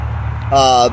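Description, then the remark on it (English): A steady low rumble of road traffic runs throughout, and a loud, buzzy tonal blare cuts in briefly about halfway through before fading back to the hum. “You're getting a lot of traffic noise.”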